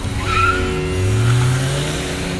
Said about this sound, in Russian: Мы начинаем заезд, на старте ревут моторы.